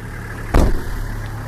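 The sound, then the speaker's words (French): A Nissan car's engine idles with a steady low rumble while the car is stuck in mud on an impassable road, broken by one sudden loud burst, like a quick rev, before settling back into the hum. “Ginette est bloquée dans la boue. Elle appelle son mécanicien pour un dépannage.”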